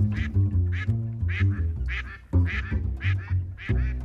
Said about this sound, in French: qui est un canard migrateur qui avait disparu du lac